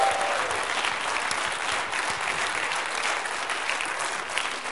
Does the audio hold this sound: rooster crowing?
no